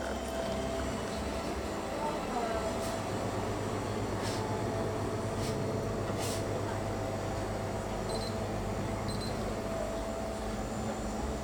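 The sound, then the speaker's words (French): A refrigerator hums with a steady, low, continuous drone that never changes in level, broken only by a few soft clicks and two brief faint high tones near the end. “Bah déjà, il y a le bruit de ce machin-là, c'est notre frigo.”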